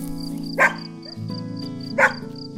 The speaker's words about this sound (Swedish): Gnäll och skäll och tramp av fyra tassar. Det är bara hunden som vill komma in, säger Bubblan.